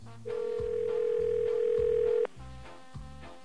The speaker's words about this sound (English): Let's show you what happens if you call now. Dial tone, please.